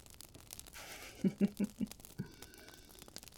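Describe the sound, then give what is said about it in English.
Soft paper crinkling and rustling while presents are wrapped, with a short run of four muffled taps in the middle, fairly quiet, with no one speaking. “But this, seeing like everything going into a bag, going into the paper, like getting the name written on it, it's just satisfying.”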